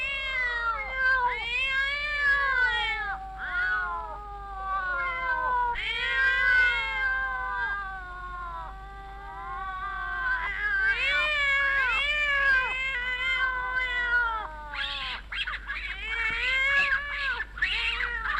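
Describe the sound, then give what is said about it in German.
Several kittens mewl and squeak almost nonstop, their thin, high cries overlapping in quick, wavering bursts, fairly loud, with no talking. “Die kleinen Katzen machen dieses Fiepen, das sich von draußen wie ein Wimmern anhört.”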